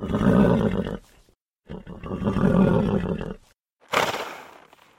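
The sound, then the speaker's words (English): An enormous black horse stamps its feet and lets out two long, rough, throaty calls in a row, then gives a sharp, breathy snort. Loud, with no talking. “It stamped its feet and snorted like a fierce dragon.”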